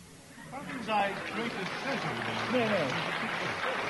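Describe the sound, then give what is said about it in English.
A crowd claps steadily for the guest Patrick Moore, a dense, even patter of applause that holds at a constant level throughout, with voices talking over it. “Now, don't keep clapping him like that.”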